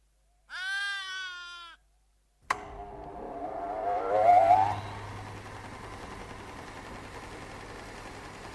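A single loud, wavering sheep bleat rings out alone, then after a brief silence a vehicle engine starts up and rumbles steadily, rising briefly before settling into a continuous drone.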